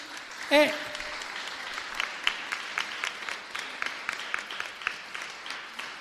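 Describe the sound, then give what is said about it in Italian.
An audience breaks into steady applause in agreement with the speaker, a dense patter of many hands clapping at a fairly even volume, with a brief voiced exclamation rising above it near the start. “E quando ti danno ragione con l'applauso vuol dire che sono d'accordo.”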